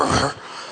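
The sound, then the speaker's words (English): A short, rough growling grumble made by a human voice imitating an annoyed greeter, loud for a moment and then trailing off into a quieter murmur. It lasts under a second. “It's kind of growl, grumble.”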